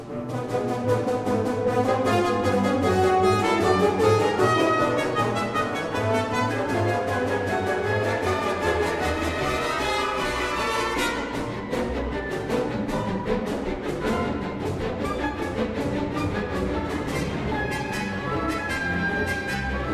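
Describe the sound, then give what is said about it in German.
Dense, loud orchestral music from 1923 drives forward in steady rhythmic pulses, portraying the Pacific 231 steam locomotive chugging along, sustained throughout with no voices. “Im Jahr 1923 stellte der Komponist in seiner berühmten Eisenbahnmusik seine Lieblingslokomotive vor, die Pacific 231.”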